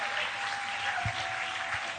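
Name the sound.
audience clapping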